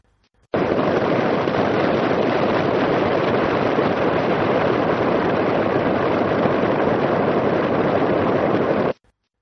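Huygens probe descent data sonified as a steady, loud white-noise hiss that cuts in abruptly, rushes evenly without change for about eight seconds, then stops just as suddenly. It is the 2.5-hour descent to Titan compressed into 10 seconds, from ACU readings of average sound power at different frequencies taken every 2 seconds.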